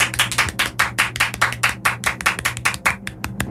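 Audience applause for a contestant, a steady run of sharp hand claps from a modest crowd, moderately loud, continuing for several seconds without any talking over it.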